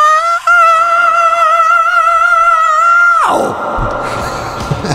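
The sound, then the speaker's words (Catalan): A heavy metal singer holds a loud, piercing scream for about three seconds, then the note breaks off abruptly into a burst of harsh, noisy crashing as the song ends. “D'aquest crit aquí al final de”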